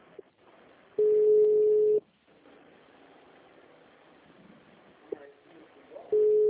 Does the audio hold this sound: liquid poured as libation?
no